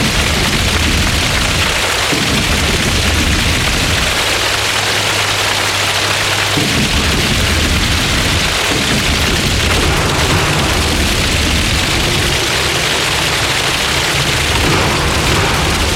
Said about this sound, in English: And they're probably manufacturing that sound as well. Stamping their feet. Now they're slapping their legs.